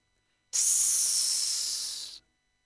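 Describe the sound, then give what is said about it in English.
A burst of radio static: a steady, bright, high-pitched hiss that starts abruptly, holds for under two seconds while easing slightly, then cuts off, with no voices. “All he could hear was a faint hiss in his ears.”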